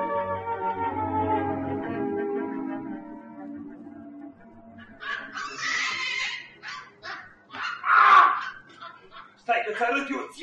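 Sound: monkeys chattering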